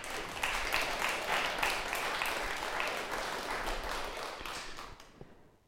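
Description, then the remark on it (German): An audience applauds steadily, a dense wash of many hands clapping at an even level for about five seconds before thinning out and fading away at the end. The applause is for people who volunteer, such as the hygiene officers. “Ich finde, die Leute haben es auch mal verdient, wenn sie sich einsetzen, einen gehörigen Applaus zu hören.”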